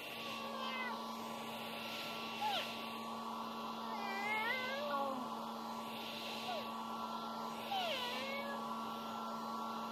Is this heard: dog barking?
no